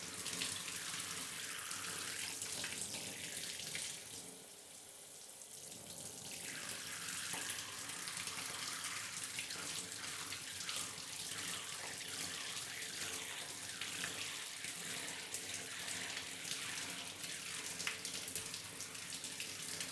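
Running water from a shower pours steadily to rinse away soap suds, a continuous hiss and splash with a brief dip partway through, then flowing on with no one speaking.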